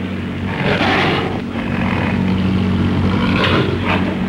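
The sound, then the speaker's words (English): Two loud propeller planes, the third and fourth in an attack, curl down and roar past the ape Kong with droning engine tones, the noise swelling and falling twice as they swoop by, one surge early and another near the end. “The third and fourth planes curl down, then speed toward the ape.”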